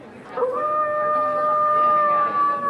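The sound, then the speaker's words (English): A Mattel Monster High werewolf doll, a brunette doll with flowing hair and wolfish ears, gives an electronic howl that rises quickly and then holds a long, steady wail for over two seconds, fairly loud, with a faint hiss underneath. “She's our werewolf, so she's going to howl for us.”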